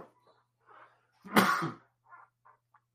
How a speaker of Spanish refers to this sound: Ay, perdón, no sé por qué me entró el estornudo.